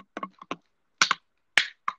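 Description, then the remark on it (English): A plastic bottle being crunched: a series of sharp, crackly bursts in irregular clusters, with a few louder crinkling crunches standing out against silence. No talking. “I just had to crunch a bottle because I actually want to throw up.”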